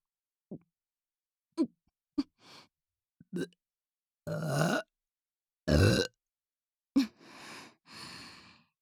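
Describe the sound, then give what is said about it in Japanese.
A string of burps, a few short clicky ones at first, then several long, loud, rumbling belches with breathy exhales between them; no one speaks. “生理現象なのでしょうか。どうしてもゲップが出てしまいます。”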